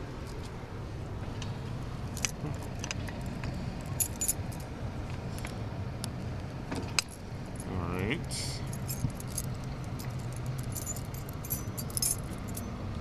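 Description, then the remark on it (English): Keys jangle and clink repeatedly in short metallic bursts over a steady low rumble, with brief louder rattles as they are shuffled through while searching for the right key at a whiskey distillery. “No pressure to find just the right key, right? Yeah, it's always the last one.”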